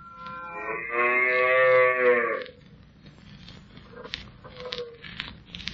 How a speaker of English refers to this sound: Hey, it's a nice herd of cattle you got there, sir. Yes, it's good cattle country around here.